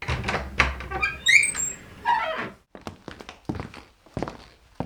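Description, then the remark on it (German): A door leading from a newly renovated hallway into a kitchen creaks open with a high, squeaky groan, followed by a series of fairly loud footsteps walking across a hard floor. “Schaut doch mal, was sich hinter dieser Tür befindet.”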